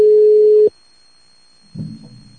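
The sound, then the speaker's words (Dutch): A telephone ringing tone as a mobile phone is called during a Eurostar Radio broadcast: one loud, steady electronic beep lasting under a second, then a short silence before a man starts speaking. “Dan ga ik eens even kijken of ik iemand dan maar op zijn mobieltje kan bellen, als hij tenminste tijd heeft.”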